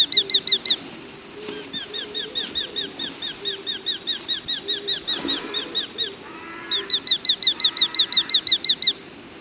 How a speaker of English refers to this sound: The hobby is a small falcon, smaller than a kestrel. With their long wings and streamlined shape, they are perfectly evolved for catching dragonflies and small birds, such as house martins and swifts.